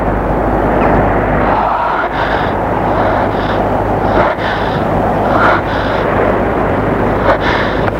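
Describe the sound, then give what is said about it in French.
A raging storm at sea, with a ship's crew lowering the sails: a loud, unbroken roar of wind and churning water with a deep low rumble, swelling now and then into brief surges. No voices. “Retour, une tempête fait rage.”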